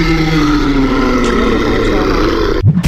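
A deep, rumbling troll roar, loud, held as one sustained growl for about two and a half seconds before it cuts off abruptly.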